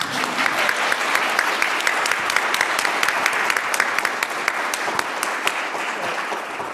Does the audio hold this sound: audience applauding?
yes